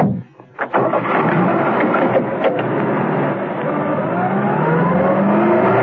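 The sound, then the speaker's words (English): A few short knocks, then the Baron's car engine roars and holds loud and steady, its pitch climbing as the car accelerates away. No one speaks. “Peel returned to the Baron and his car.”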